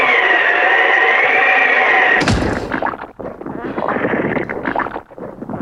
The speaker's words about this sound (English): Actually saying that, no, I don't know, my driveway is very squelchy. This is the only sound effect, to be honest with you, I can find that says footsteps. This is a very squelchy driveway I'm standing on.